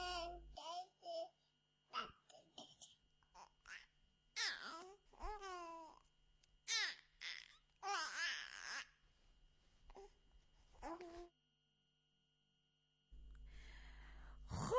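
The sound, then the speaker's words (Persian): A newborn baby babbles and coos in short bursts of soft, high-pitched vocal sounds with brief pauses between them, followed by a few seconds of silence and a burst of noise at the end. “صدای دیگه ای که شما دوستان بهش جواب دادین و ما روزه قبلم اشاره کردم بهش که خودمم خیلی دوست دارم صدای نوزاد هست.”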